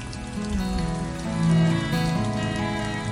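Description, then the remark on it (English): Steady, dense rainfall pours down on a dirt road, turning it to mud, in a continuous hiss, swelling slightly in the middle, with low sustained musical tones running underneath and no voices. “I looked back to see Kenneth Banya, ducking into his concrete apartment, out of the rain.”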